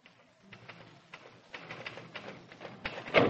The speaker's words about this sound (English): He asked me if I would type a few important letters for him that had to go out before Monday. I said sure, and used your old typewriter in his office. I was typing away when...